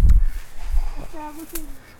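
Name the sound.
ducks quacking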